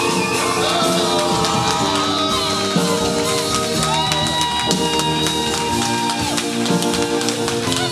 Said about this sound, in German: Freuen wir uns mega drauf und jetzt geben wir Christian mal einen richtig fetten Applaus. Welcome on stage, Christian Knorr!